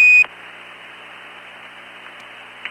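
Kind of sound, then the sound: household object, kitchen timer beeping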